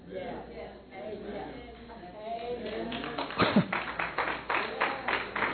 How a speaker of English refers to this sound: For those of you watching, they're clapping in here.